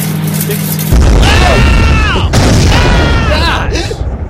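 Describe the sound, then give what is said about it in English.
A sudden, loud explosion sound effect for a Galaxy Note 7 phone erupts after a low hum, leaving a sustained roaring rumble, with descending whining tones or vocal cries sweeping over it twice. “No microwave required for explosion.”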